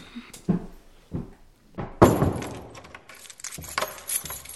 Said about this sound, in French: Aucune idée, mais nous devrons fermer et verrouiller la porte avant que quelqu'un d'autre rentre dans la maison. Elles descendirent en bas pour verrouiller la porte de leur maison.